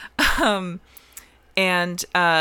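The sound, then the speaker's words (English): A voice imitates a gasping cough: three loud, strained bursts with brief pauses between, like someone spluttering and hacking up water, acting out a woman coughing up water after being given mouth-to-mouth. “And after, like, what, 2 minutes, she does a, and she is fine. Coughs up water, and she's alive.”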